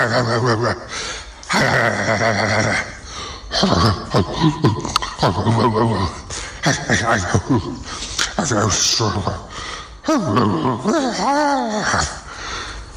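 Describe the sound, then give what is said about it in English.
A person imitates a pig with a loud run of snorting grunts and squealing vocal bursts, with rising and falling squeals near the end. “And various pig noises, which I might do a better job at later on.”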